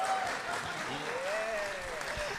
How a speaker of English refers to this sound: Can I have a hand of applause if you know what Prestidigitation is?